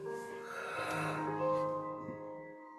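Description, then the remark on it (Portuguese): A slow, deep breath drawn in and let out during a guided meditation, soft and airy, over a steady sustained musical drone. “Fazemos uma respiração profunda.”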